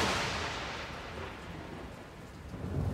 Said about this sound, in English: They looked up and saw that clouds had gathered, and although it was not yet raining, there were flashes of lightning everywhere. The night sky was ablaze. The next moment, a lightning bolt struck the side of the mountain very close to them.